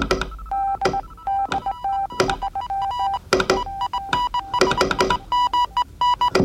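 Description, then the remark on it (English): A steady mid-pitched tone keys on and off in short and long beeps, Morse code over a radio, broken by sharp bursts of crackling static throughout. “All this energy to get one Morse code message across.”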